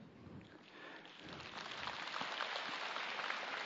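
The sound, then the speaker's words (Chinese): A crowd of people from Kaohsiung applauds, a dense patter of many hands clapping that swells and grows louder after the first second and a half, then holds steady with no voices over it. “那个鼓掌的是高雄来的。”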